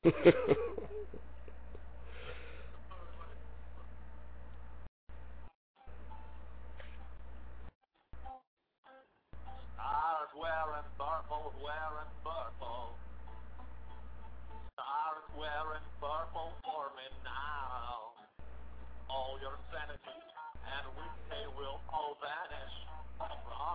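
A song plays through a cell phone, thin and tinny over a steady low hum, with a wavering sung melody that cuts out briefly several times.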